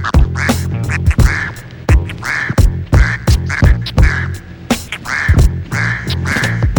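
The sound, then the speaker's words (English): A loud run of rapid nasal duck quacks, imitated rather than real, repeating in quick bursts with sharp percussive clicks between them and no talking. “Here comes that first duck.”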